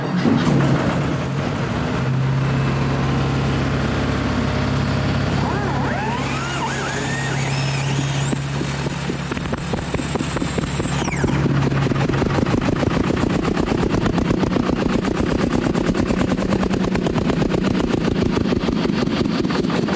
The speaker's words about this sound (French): Avant de descendre à la mine, on va prendre le train. Alors, là, ce tracteur ici, il démarre à l'air comprimé.